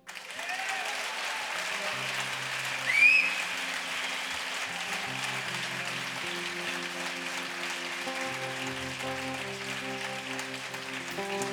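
Loud, sustained applause from a large audience welcoming a guest, with a sharp whistle rising briefly near the start while band music plays steadily underneath.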